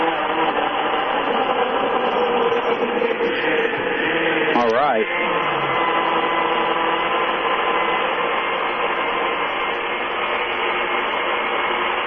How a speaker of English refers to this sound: Go ahead and blend these here strawberries up.